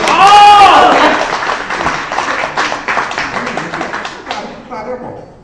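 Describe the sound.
An audience at a xiangsheng (Chinese crosstalk comedy) show breaks into loud, sustained applause on request, a dense patter of many hands clapping at once that fades after a few seconds. A voice is briefly heard at the start.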